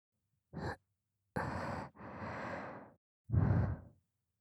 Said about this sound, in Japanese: 本当に吐息が好きなんですね。さっきから耳がピクピクと。たくさん吹きかけますね。